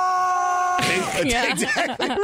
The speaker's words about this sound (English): This is what it sounds like when they hit the water. He's yelling. And it's just a bunch of other dudes standing around with beers in their hands going, oh, yeah.